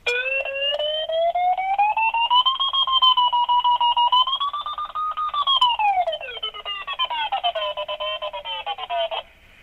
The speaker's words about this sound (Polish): Tak więc te takie kolejne piknięcia tak naprawdę oznaczają większą prędkość wznoszenia. To jest takie bardzo takie pikanie z nader optymistycznym odgłosem, który każdy szybownik lubi słyszeć tak w swoim szybowcu, jeżeli ma taki elektryczny wariometr.